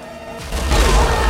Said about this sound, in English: A blast of fire shoots out of the cannon, the turret rotates, and the guns at the sides mow down the men.